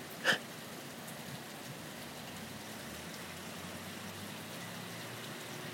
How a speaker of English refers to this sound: Anyway, let's take a listen to the pouring rain and the blowing winds for a second. Which kind of makes it feel somewhat oceanic out here.